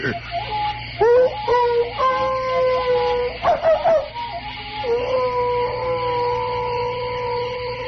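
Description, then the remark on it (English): Several hounds howl together in long, overlapping wails that rise and slide in pitch, broken by a short rough burst of barking or yelping midway before the mournful howls carry on. “Thank God, Holmes, you hear those hounds.”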